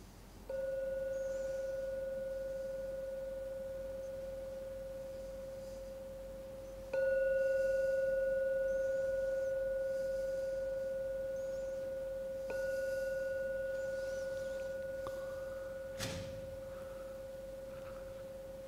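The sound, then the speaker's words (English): A meditation gong is struck three times, about six seconds apart, each strike a loud, steady mid-pitched ring with a higher overtone that slowly fades before the next. A brief knock follows. “And now I'm going to be ringing the gong 3 times.”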